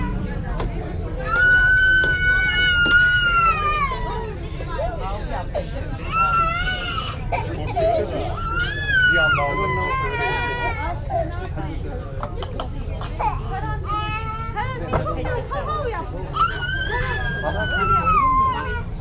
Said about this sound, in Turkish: Gördüğünüz gibi bebek ağlamaları var. Bir bebek bayağı acı acı ağlıyor. Anneleri onu avutmaya çalışıyorlar.